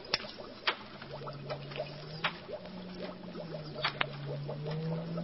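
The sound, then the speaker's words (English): An encephalograph machine, just switched on, hums steadily at a low, slowly wavering pitch, overlaid with scattered sharp clicks and faint chittering electronic chirps, fairly quiet, with no voices. “Turn on the encephalograph.”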